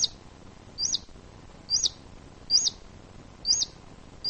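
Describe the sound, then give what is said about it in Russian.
A ground squirrel's sharp alarm whistle repeats five times at a steady pace, about one call per second, each a brief high-pitched chirp over quiet background with no talking. “Однако вот эксперименты показывают, что если, например, наземный хищник выскочит резко, или, например, в суслика бросит шапкой, сделает другое резкое движение, он свистит.”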